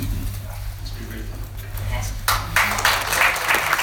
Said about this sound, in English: Awesome. Well-deserved applause there.